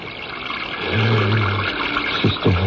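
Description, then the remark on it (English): Water runs steadily with a hissing rush, and a low hollow tone swells and shifts near the end, like liquid filling a vessel, as water is fetched for a woman who has fainted. No one speaks. “Water. Yes, that's why. I'll get water.”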